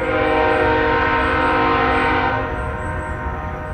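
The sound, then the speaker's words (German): A freight train's horn blares loud in one long sustained chord before the barrier of a level crossing in the desert in America, its rich layered tones holding steady before easing slightly near the end, with a rumbling rail undertone beneath. “Und dann dieses typische Horngeräusch, was der gemacht hat vor der Schranke.”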